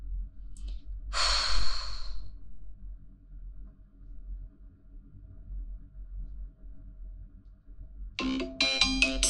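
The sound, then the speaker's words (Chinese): A heavy sigh or exhale, then a quiet pause before a phone's electronic ringtone bursts in near the end, loud, with bright melodic tones repeating. “怎么有电话？”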